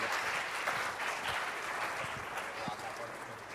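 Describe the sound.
Steady audience applause, a dense continuous patter of many hands clapping at an even level for a few seconds, with faint voices mixed underneath.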